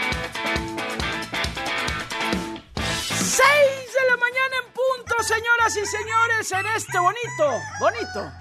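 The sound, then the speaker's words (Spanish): A brief burst of music gives way to a rooster crowing loudly, several wavering crows in quick succession over a low steady hum. “Híjoles, gallo de jueves.”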